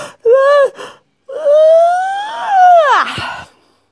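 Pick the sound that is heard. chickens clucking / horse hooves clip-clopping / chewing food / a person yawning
a person yawning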